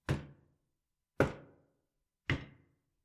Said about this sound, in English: Did you hear that? It can't be someone at the door. It can't. 3 knocks. It sounds so familiar.